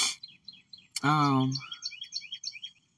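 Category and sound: bird, birds singing outdoors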